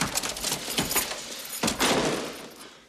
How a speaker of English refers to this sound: He runs back to his house and quickly unlocks the front door.